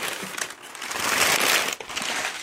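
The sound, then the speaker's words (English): Continuous crinkling and rustling of packing paper being handled while opening an ordered box, with irregular crackles and brief pauses, fairly loud and with no voices. “Paper.”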